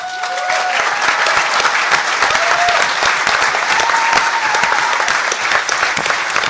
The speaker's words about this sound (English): Thank you. For those of you who don't know why they're applauding, I'm the guy with my own area code.